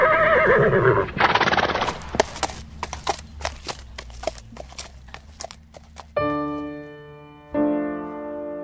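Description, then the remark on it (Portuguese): After a brief rush of noise, hooves clip-clop in a brisk, steady rhythm, then a mare lets out two loud, drawn-out whinnies. “Vambora, Pandora. Vê lá se isso é nome de égua.”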